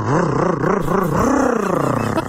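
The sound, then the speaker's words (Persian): A voice imitates a boosted engine revving: a loud, gritty growl whose pitch swoops up and down in repeated waves for about two seconds, ending in a brief sputter. “راستی موتور رو تقویت کردم برات، گوش کن.”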